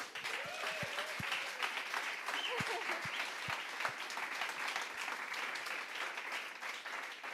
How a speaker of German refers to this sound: Ihr seid Helden und ihr macht wirklich einen Unterschied in diesem Kanton. Danke viel, viel mal. Lasst uns ihnen doch einen mega Applaus geben.